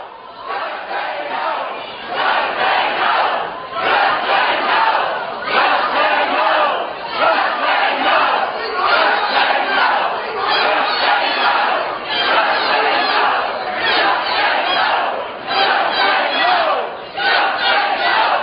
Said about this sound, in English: There's a good 100 or so of these freaks. They follow him into the parking lot, screaming, waving at him, hollering their fool heads off.